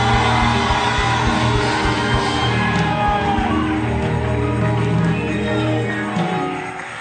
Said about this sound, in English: Somebody scream! Scream!